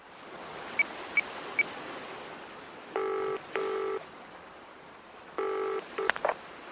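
Three quick, evenly spaced keypad beeps as a mobile phone dials 999 on a beach to call the police and an ambulance, followed by a few bursts of ringing tone, all over a steady rushing background like surf.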